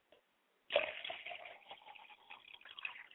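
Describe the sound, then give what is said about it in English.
Liquid is poured out as a libation to the south in a steady, splashing stream that starts abruptly after a moment of quiet and runs on, fairly loud, until the end. No one speaks. “I now pour libations to the south, and I say ashe.”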